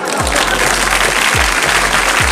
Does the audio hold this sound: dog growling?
no